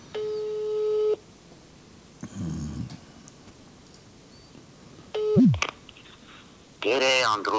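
A steady, mid-pitched electronic phone tone sounds for about a second as a call is dialed from a live radio broadcast, followed by scattered short beeps, a low rumble, a quick sliding chirp and a brief burst at the end.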